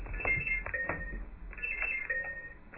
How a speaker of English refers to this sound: Let's do a quick buzzer check before we get started.